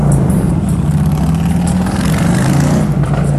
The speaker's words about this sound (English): Harley guys love to rev their engines up when they go by me, but does it stop the preaching? No.